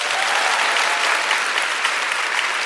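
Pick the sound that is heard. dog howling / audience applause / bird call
audience applause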